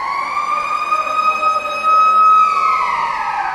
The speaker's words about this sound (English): The plant at Elizabeth in Adelaide's north opened in 1963, with the first model fully built 2 years later. But by this time next week, the end of shift siren will have sounded for the last time.